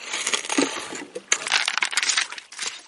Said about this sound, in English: Panning for flecks of gold on the banks of the Mekong River in northeastern Thailand.